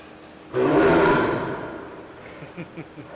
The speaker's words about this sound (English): So that's Rojo, our tiger. Rojo is a Sumatra tiger. It's the smallest subspecies of tiger in the world. They're the darker markings. Just beautiful cats. He just got fed.